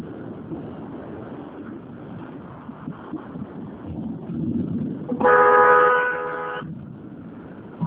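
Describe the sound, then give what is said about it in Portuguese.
A car horn blares loudly for over a second amid a steady rumble of street traffic, with no talking. “Estão fazendo besteira no trânsito aí, é?”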